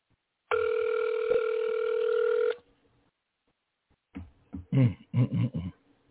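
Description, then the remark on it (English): A single ringback tone on an outgoing phone call: a steady, buzzy tone lasting about two seconds, then a pause, followed by a burst of muffled, voice-like sounds. “Pick up the phone.”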